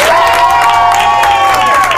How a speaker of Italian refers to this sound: Un applauso alla vostra fantasia.